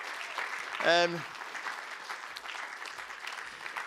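A crowd applauds steadily throughout, a dense patter of clapping, while a brief loud whoop or cheer rises above it near the start.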